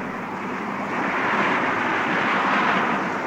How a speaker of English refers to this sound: The Spectrum helicopter is overflying the motorcade.